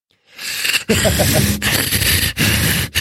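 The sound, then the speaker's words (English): Someone breathes straight into the microphone, imitating the heavy, wheezy breathing of Wheezy from Hey Arnold: several loud, raspy breaths in a row, each cut off by a brief pause, with no talking. “But if you're sitting there eating the mic, you're breathing straight into it and it sounds like Wheezy from Hey Arnold.”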